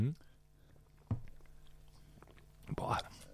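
Crunchy chewing sounds of someone biting into a pickle, a couple of sharp crunches followed by a burst of wet munching near the end.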